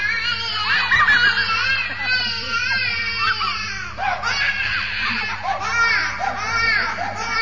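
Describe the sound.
A baby wails loudly and continuously, its cries rising and falling in long, full-chested bursts with quick gasps between them.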